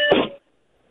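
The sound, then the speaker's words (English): A single short electronic beep on a caller's phone line from Salem, a harsh, buzzy tone lasting under half a second before the line drops into silence. “We heard some beeping there.”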